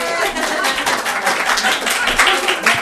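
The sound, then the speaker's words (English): An audience claps steadily for a few seconds, many hands blending into a dense, bright patter that stays at a fairly even loudness throughout. “The same time, my new husband and myself, yeah, you can clap for that too.”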